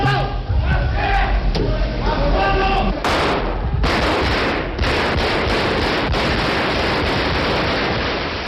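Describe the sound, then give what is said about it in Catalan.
Raised voices shout over a tense crowd, then loud bursts of gunfire erupt indoors, several sharp shots fired into the ceiling amid a sustained roar of commotion and yelling that carries on to the end. “Es varen sentir trets al sostre, de fet tenim un altre fragment una miqueta més llarg, on clar, hi ha aquest moment de tensió i se comencen a sentir aquests trets.”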